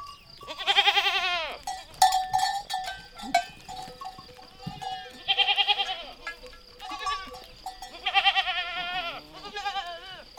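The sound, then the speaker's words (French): Goats and sheep bleat repeatedly, wavering cries rising over a steady jangle of the flock's small herding bells, made with holm oak heartwood so their sound carries very far, with several animals calling in turn throughout. “Les pasteurs assurent qu'avec ce matériau, le son peut s'entendre de très loin. Ainsi, ils reconnaissaient leur troupeau et cela leur permettait de trouver la brebis ou la chèvre perdue dans la montagne.”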